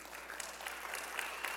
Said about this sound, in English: Yeah, this is totally a clap for her. 19 years.